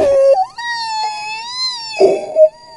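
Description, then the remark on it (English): A played-back recording of a long, eerie whale-like wail with rich overtones that slowly swells and bends in pitch for about a second and a half, bracketed by short noisy bursts at the start and end. “It does sound like a whale.”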